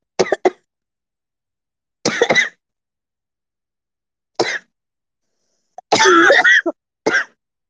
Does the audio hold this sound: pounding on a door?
no